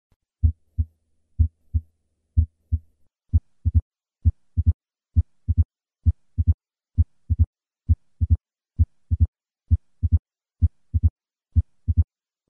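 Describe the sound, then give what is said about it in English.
A steady heartbeat of low thumps: three normal lub-dub beats, then each beat gains a sharp extra click just after the second heart sound, the opening snap of mitral stenosis, caused by a thickened mitral valve and heard at the cardiac apex. No talking. “I will begin with 3 normal beats and then add the opening snap.”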